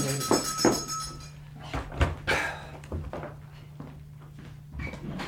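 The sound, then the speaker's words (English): A front door is unlatched and swung open indoors to answer a caller, a few clunks and creaks followed by soft rustling and a steady low hum. “Yes, I'll answer the door.”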